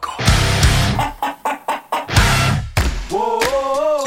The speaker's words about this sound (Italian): signore e signori è tornato il gallo del pollaio.